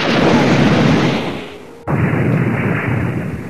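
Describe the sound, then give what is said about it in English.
A loud, roaring rocket explosion: a broad rumbling blast fades over about two seconds, then a second sharp detonation cuts in and roars on at full force. “The first rocket caught him in the ear.”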